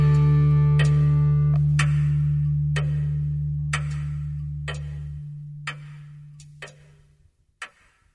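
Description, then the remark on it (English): A clock ticks slowly and steadily, about once a second, around eight clear ticks over a low sustained hum that fades out partway through, leaving the ticking alone. “Ticking its way into eternity”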